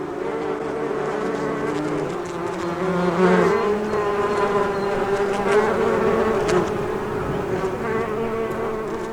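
insect, bees buzzing

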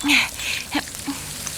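food or drink, batter sizzling

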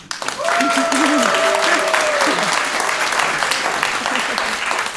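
crowd, audience applauding and cheering

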